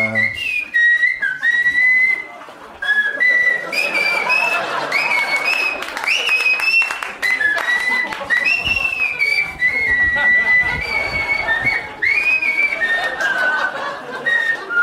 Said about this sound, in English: I can hear you losing fans as this goes on. People probably think you whistle all the time on your podcast.